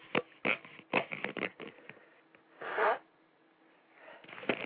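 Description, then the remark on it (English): An imported, fake nose blowing sound effect: a quick series of short, snorting nasal bursts, then one longer, louder honking blow, followed by a few more brief sniffs and snorts. “I didn't really blow my nose. That was just a sound effect we imported for the purpose of making it sound like I did.”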